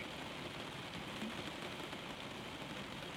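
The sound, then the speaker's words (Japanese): Steady rain falls outside, a constant dense patter of drops on surfaces with no pauses, no voices, and nothing else standing out above the wash. “外は変わらず雨だ。”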